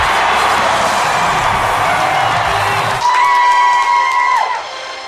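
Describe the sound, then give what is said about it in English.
A large baseball stadium crowd roars and claps loudly and continuously during player introductions, then a sustained, steady horn-like tone rises over the cheering for over a second before fading. “Mike waves his cap. Amelia applauds from the owner's box.”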